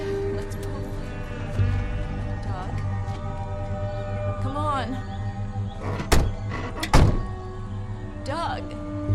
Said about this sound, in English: Two men open the car doors, and Doug's parents climb out as he stays put.